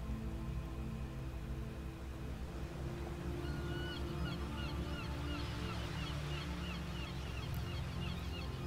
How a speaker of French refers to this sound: Le craquettement des cigognes installées sur le port nous parvient et se mêle à celui des goélands et des mouettes, lesquels caressent presque les vagues de leurs plumes tant ils volent bas.